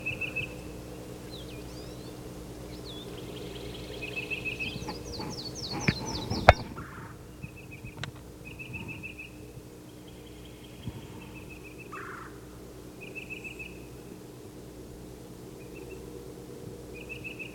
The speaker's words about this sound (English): The yellow-throated warbler.